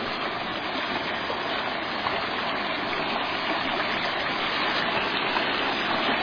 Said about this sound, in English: And there you can see there's another one of the bridges, bridge number 3. And the water is going over that away and making new pathways.